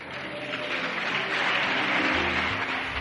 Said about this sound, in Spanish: El resultado de la votación ha sido aplaudido, como han escuchado, sobre todo por las bancadas de Podemos y de la Esquerra, que han competido entre ellos a ver quién se ponía la camiseta más reivindicativa de los estibadores.